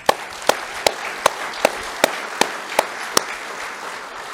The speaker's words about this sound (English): So amen to that. I want to give the Lord a round of applause.